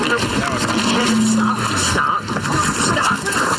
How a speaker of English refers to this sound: So the car is idling. The car is already on.